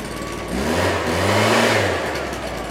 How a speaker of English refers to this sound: Wrench to put together the leaf blower and make it work again. It's a leaf blower.